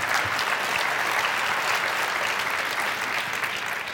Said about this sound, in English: Now you're not, yeah, you can clap. Go ahead.